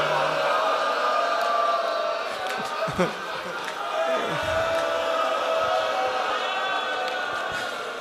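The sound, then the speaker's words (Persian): A dense crowd of many voices ululating together, a steady warbling wall of high trilling cries mixed with shouts and chatter, loud and unbroken throughout. “صدای هل هل بود و”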